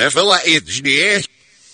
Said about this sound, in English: if you're able to identify which band we're about to play the name for you backwards